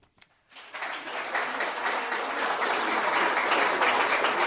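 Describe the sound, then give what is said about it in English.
A crowd at a live recording of a jazz radio show at the University of Richmond bursts into sustained applause and cheering for the host after a brief quiet moment, the dense clapping building and holding steady at full volume to the end. “Oh, wow, what a crowd. I thought they were at the Donald Trump rally.”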